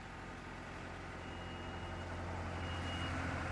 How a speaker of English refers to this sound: Back in Parkeycreeve, it's early afternoon and workers are attaching thick chains to a roof section. When the crane lifts that on top of the roof, all work on the site stops.